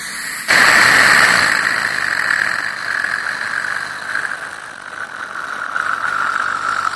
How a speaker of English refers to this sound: That's what you use sometimes when doing something with my teeth, and maybe you actually even squirt some water, but you don't want me to swallow it, and you put that straw in, and it's that suction thing,